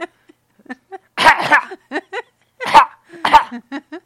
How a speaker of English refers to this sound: Stop coughing in my direction.